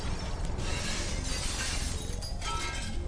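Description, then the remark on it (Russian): Glass shattering from a fire at an institute, heard through thick fog, in a loud, continuous burst of crashing and tinkling fragments that keeps going for the full length without a break. No voices. “Хоть из-за густого тумана пожар отсюда не был виден, но гул от пламени и разлетающихся стекол был слышен хорошо.”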